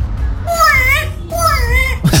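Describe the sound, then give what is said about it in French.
An African grey parrot, asked by its owner to make sounds, mimics a crying baby with two drawn-out, wavering wails in quick succession, fairly loud over a low background rumble. “Donc le mec lui demande de faire des sons, mm-hmm. et le perroquet réalise ses sons. Écoutez. Et comment il pleure le bébé?”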